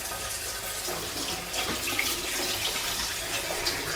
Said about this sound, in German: So, jetzt mache ich das Wasser drauf, oder? Das ist Seife, aber. Das ist Seife? Das ist Seife, ja.